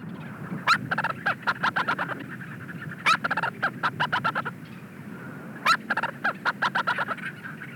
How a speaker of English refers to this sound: It's, of course, inhabited by a creepy haunted doll, with sounds courtesy of a nesting leech's storm petrel.